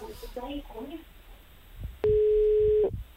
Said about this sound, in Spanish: Estamos marcando. Mira, ahí está el teléfono de Celes.